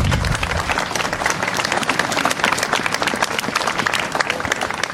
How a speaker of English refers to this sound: I just want to acknowledge and thank the Otago drummers here today for all that effort, that energy, the skill is just fantastic, and it's a great way to start this ceremony. So I think another round of applause is appropriate.